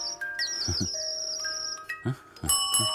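A doorbell rings with sustained, bright tones that hold and overlap for several seconds, while a few short, dull thumps sound underneath. No one speaks.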